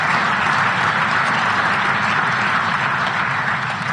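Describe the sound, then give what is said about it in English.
Sustained applause from a large crowd at the Munich Security Conference after a speech by Vice President J.D. Vance, a dense steady wash of many hands clapping at once, fairly loud and even throughout with no voices standing out. “I hope that's not the last bit of applause that I get, but...”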